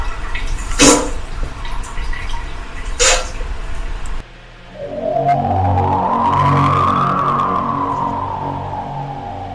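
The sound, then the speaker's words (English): A running water sound effect from a machine: steady rushing water with two brief splashy bursts, then a louder stream whose gurgling tone slowly climbs in pitch, like a vessel filling up. No voices. “Simply hook up to child under 6 or psychopath and wait for the running water sound.”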